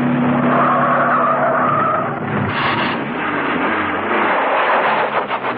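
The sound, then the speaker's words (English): A car's tires screech loudly as it brakes hard at the exit ramp of a car park, then the engine roars and the wheels skid again as it reverses and tears away toward the entrance, continuous throughout. “At the ramp to the exit, she stopped, reversed, and tore down to the entrance.”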